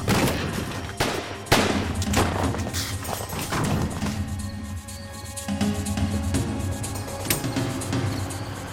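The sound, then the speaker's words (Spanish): Several sharp gunshots ring out in an irregular burst, loud cracks over a steady low rumble, with a few more shots scattered through the rest of the stretch; McCoy grabbing his gun and firing at FBI agents at the front door of his hideout. “Cuando McCoy escuchó al FBI, tomó su arma y disparó.”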